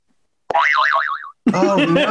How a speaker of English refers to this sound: Give me the zany whistle. Yeah, here we go.